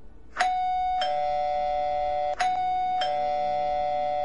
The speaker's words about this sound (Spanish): Tocaron el timbre.